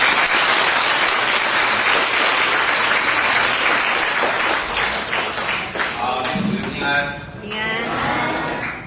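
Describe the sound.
A crowd applauds steadily with loud, dense clapping for about six seconds to welcome a visiting pastor at a Good Friday evening gathering, then the applause thins out as a man's voice begins speaking over the last of it.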